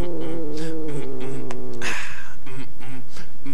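A cat yowls loudly in a long, wavering cry, breaks into a brief hissing burst, then lets out several shorter, strained yowls. No one speaks.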